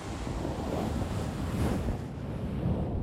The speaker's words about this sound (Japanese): ちなみにね、今までガサガサしてた方と反対のタオルの面を使ってやってきますね。